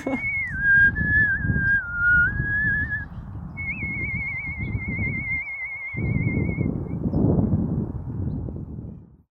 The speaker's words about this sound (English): It's taken me a while to kind of feel confident with saying, like, I'm a whistler, this is what I'm doing. You know, it's still something that I, you know, I can't really believe is happening. It kind of found you. The whistle found me, yeah.